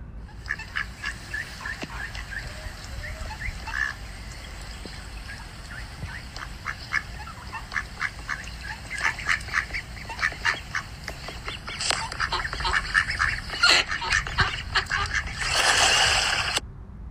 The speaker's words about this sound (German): Okay, also man könnte auch Wasser hören, aber es war nicht im Wasser, sondern auf dem Wasser, glaube ich. Also ich denke mal eine Ente.